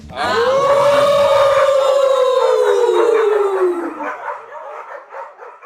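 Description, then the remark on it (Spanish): People make a loud, drawn-out dog-like howl as a farewell. It slides slowly downward in pitch for about four seconds, then breaks into a softer, wavering, yipping tail. “nos despedimos con nuestro maravilloso aullido.”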